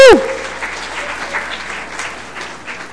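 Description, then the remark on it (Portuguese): A crowd applauds an audience member called up to the front, a dense wash of clapping from many hands that continues evenly for a few seconds, opening with a brief sharp tonal blip. “Palmas pro cidadão aí que foi apontado aí, foi obrigado a vir, mas palmas pro cidadão aí.”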